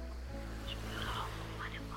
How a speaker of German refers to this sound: Die Wellen schlagen an den Strand und du hörst es. Mit jedem Geräusch wird deine Erregung stärker und stärker.